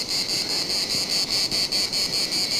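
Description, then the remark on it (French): Loud cicadas drone in a continuous high-pitched buzz that pulses in a steady rapid rhythm, several throbs per second, with no voices and a faint broad hiss underneath; recorded a few hundred metres from the Atlantic Ocean in the Médoc region of France. “Que des cigales au bord de l'océan, enfin, du moins, dans cette partie régionale du Médoc, c'est la première fois que je les entends.”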